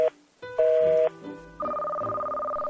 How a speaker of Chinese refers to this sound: 你怎么可以挂队长的电话呢？多没礼貌啊！